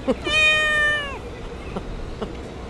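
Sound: cat meowing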